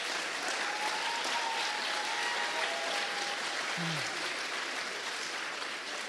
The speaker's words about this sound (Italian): Questo applauso non è per me, è per il fatto che siamo ancora qui, nonostante tutto, ci siamo e ci resteremo.